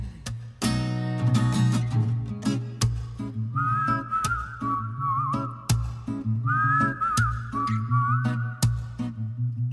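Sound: whistled tune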